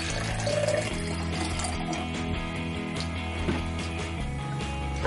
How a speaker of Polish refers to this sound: No to teraz bierzemy naszą szklankę, nalewamy do niej wody.